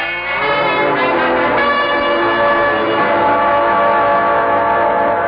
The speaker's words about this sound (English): Well, what's that? Oh, that's Cookie's bell. But this time it isn't for us to eat. We're ready to pull out.